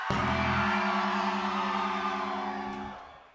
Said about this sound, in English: Now, when we ask y'all to scream, y'all need to scream at a loud pitch. Let's try that. Scream. Let's try that one more time, shall we? Everybody, scream!